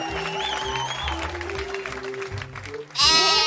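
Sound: sheep bleating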